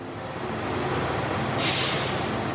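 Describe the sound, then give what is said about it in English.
A steady low rumble of an idling bus carrying 40 teens as it parks outside a football club in Ecuador, then a sharp burst of air brake hiss partway through, loud, with no voices. “A bus of 40 teens arrives and parks outside the football club.”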